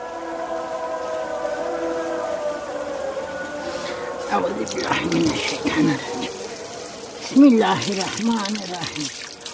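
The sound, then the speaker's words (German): Water runs and splashes in short bursts from an outdoor tap in front of a house during a ritual washing in the eastern Black Sea region, with a sustained, wailing tonal sound in the background at first and a faint voice. “Es beginnt am Wasserhahn vor dem Haus mit einer rituellen Waschung.”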